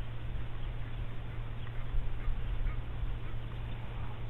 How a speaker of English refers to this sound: It's like there's a volcano that's just erupting, and birds, tiny little birds, are just being spewed forth out.